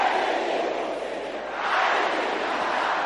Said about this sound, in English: Say, any evil thing hiding in my life. Can I hear you shouting this?